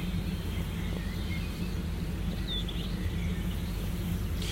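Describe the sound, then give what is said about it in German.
Faint bird chirps and short song phrases drift over a steady low rumble of outdoor background noise, with no one speaking. “Ihr hört die ganzen Vögel hier.”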